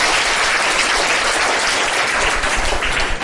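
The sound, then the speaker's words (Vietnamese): A crowd at a Buddhist teaching applauds steadily for a few seconds to praise the young children present, a dense, continuous patter of many hands clapping at a fairly loud, even level with no speech over it. “Chúng ta cho một tràng pháo tay khen các em này.”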